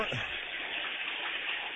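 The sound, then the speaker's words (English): Water runs steadily from a tap, a constant hissing splash at moderate volume with no pauses or changes throughout. “Get some water going.”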